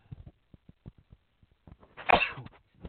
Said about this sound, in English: I'm so sorry, everybody. I'm sorry for everyone listening that you heard me sneeze, but, you know, you can't help it. I couldn't mute it fast enough.